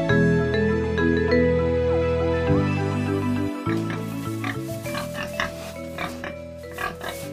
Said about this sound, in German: Das Schwein.